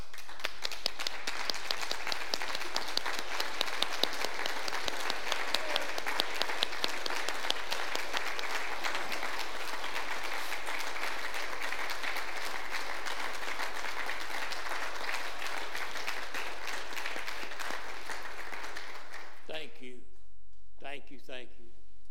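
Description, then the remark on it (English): Sustained standing applause from a large church audience, a dense, steady roar of clapping that holds for about twenty seconds before fading out, with a voice starting to speak at the end. “And maybe it be a rousing standing applause.”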